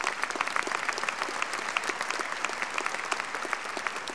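An audience applauds Erskine Bowles steadily for several seconds, a dense patter of many overlapping hand claps holding an even, moderate loudness with no voices over it.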